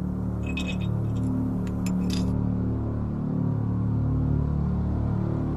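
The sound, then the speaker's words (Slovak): A plate falls from a man's hands as he eats dinner in a yard and shatters, giving a quick cluster of sharp, bright clinks and crashes in the first two seconds over a steady low droning rumble that continues alone afterward. “Potom mu vypadol z rúk tanier a rozbil sa.”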